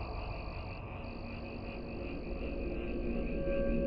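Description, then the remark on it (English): A dense chorus of deep frog croaking fills the air, a steady, overlapping drone with no pauses that swells slightly louder toward the end, with no voices present. “As though answering the distressed cries of the frogman I'd sprayed, we were suddenly surrounded by the sound of deep croaking.”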